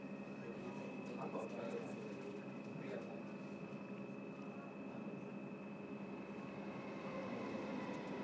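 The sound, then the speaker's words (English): A train rumbles past on the adjacent lines out of London Liverpool Street, a steady, loud roar of wheels and rail noise with a high, sustained whine running through it the whole time. “The sound of a train on the adjacent lines out of Liverpool Street.”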